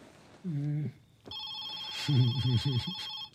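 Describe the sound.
A telephone starts ringing with a steady, bright electronic tone that holds to the end, while a voice talks briefly before it and again over the ring.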